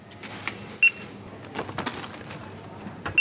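Two sharp, high-pitched scanner beeps ring out about two seconds apart over a busy, rustling store background with handling noises, as a small girl holds the scanner and her mother helps scan groceries at a self-checkout in the Migros in Bern's old town.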